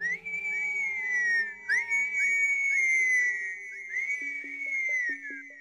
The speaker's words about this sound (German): Aber wir haben keine Pferde mehr. Gandalf pfiff.